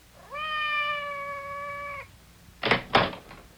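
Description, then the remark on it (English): Madame's cat, Francois, lets out one long, drawn-out meow outside the door, steady and fairly loud, followed a moment later by two quick thuds like knocks on a door. “Did you hear anything? Outside the door. It sounded like Madame's cat, Francois.”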